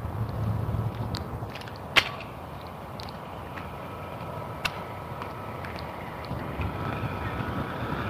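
A boat passes on the water, its steady low engine drone filling the background with wind-like rumble, punctuated by a couple of sharp brief clicks or knocks.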